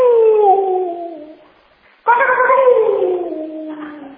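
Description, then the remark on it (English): A man's voice imitates a rooster crowing in two long, loud, wavering calls, each sliding downward in pitch, with a short pause before the second, more abrupt cry. “That's my rooster impression.”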